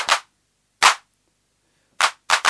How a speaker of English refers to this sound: Now, the controls, well, there are several controls. The simplest one gets rid of what I call the reverb part of the hand clap.